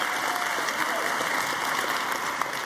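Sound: audience clapping loudly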